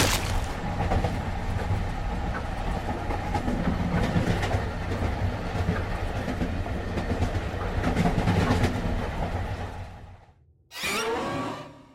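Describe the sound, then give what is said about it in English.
A train rumbles loudly along the rails with a steady, clattering roar. It briefly drops away, then a sudden burst of shrill, wavering metal-on-metal squealing erupts at the end. “I thought I saw the ghostly woman embrace him for a split second, a rictus grin plastered across her scary face, before the crunch of bones and the squeal of metal on metal filled my ears.”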